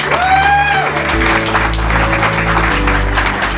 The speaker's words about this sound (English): And I also want you to give a round of applause to this soldier who dedicated his life in service and sacrificed his leg in Afghanistan for us. Give him a round of applause for his service.